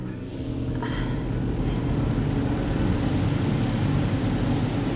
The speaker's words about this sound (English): right now in this car wash?